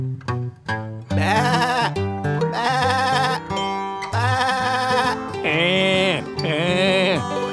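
Several loud sheep bleats in a row, each a wavering, nasal baa lasting about a second, with short pauses between them and no talking.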